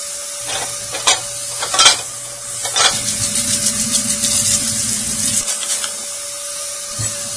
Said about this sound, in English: It's dishwasher. That's the sound of someone that doesn't use palm olive trying to get the grease off.